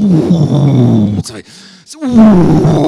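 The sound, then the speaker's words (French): A person imitates a lion's roar with deep, rumbling, loud growls, broken by a brief breathy pause before a second drawn-out roar. “Ouh, t'as déjà entendu un lion rugir, ouh là là.”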